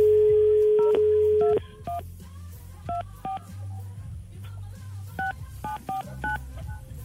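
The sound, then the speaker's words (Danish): A steady dial tone for about a second and a half, then a series of short touch-tone beeps dialing a number in quick irregular bursts to call a girl, with a low background hum underneath. “Vi gør nu, Daniel, det er, at vi ringer op til Sara”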